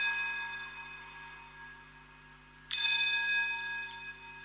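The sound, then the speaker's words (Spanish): Church bells ring with a sustained, resonant tone, their harmonics lingering before a fresh, louder strike lands partway through. They sound full, with no talking over them. “Vamos a esperar a que pasen las campanadas.”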